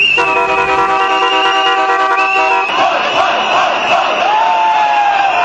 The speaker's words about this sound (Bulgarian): Организирано и шумно протестиращите преминаха покрай сградите на Здравното министерство и Министерския съвет, а накрая се събраха пред парламента